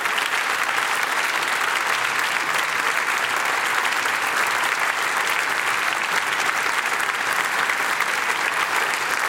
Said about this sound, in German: Wir bedanken uns bei der kompletten Technik-Crew, ohne die so ein Abend eben gar nicht möglich wäre. Alle hinter den Kulissen, die haben auch nochmal einen Applaus verdient.